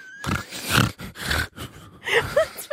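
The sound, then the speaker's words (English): A person imitates snoring during a head massage at a hair salon, making a series of rough, rumbling snorts and grunts in quick succession, some breathy and nasal, with no speech. “Because I had to apologize to them because I'm like, I bet I was snoring.”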